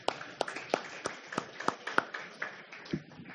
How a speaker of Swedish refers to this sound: Jag tycker vi ger en applåd för alltihop.